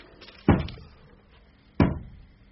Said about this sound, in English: Knocking. I heard. That means she's getting impatient.